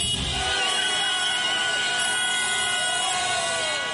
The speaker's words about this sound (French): Les cris de joie et concerts de klaxons qui ont accueilli hier dans les rues de Harare la décision du président Robert Mugabe de finalement accepter de démissionner après 37 ans à la tête de ce pays d'Afrique australe.